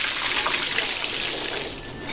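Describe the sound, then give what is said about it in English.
McCain's SureCrisp fries sizzle steadily in hot oil in a restaurant fryer, a loud, continuous crackling hiss with a bright, high-pitched texture that holds even throughout, with no voices. “The sound of a crisp fry starts way before the first bite.”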